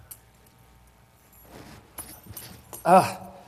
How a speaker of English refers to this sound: Here, take my keys, and you're going to throw them to me, and I'm going to catch them. Oh, I missed. Here, let's try it again.